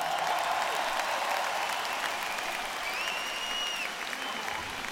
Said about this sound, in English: And they're behind the stage clapping for you as well.